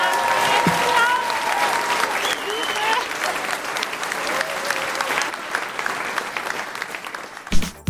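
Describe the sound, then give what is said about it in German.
A crowd claps loudly and steadily for several seconds for a duo of female presenters, with cheers and a few high whistles rising over the dense patter before a brief sharper burst at the end. “Wäre es vielleicht noch ein sehr, sehr guter Moment, um für unser sehr charmantes Moderatorinnen-Duo einen sehr, sehr grossen Applaus zu machen?”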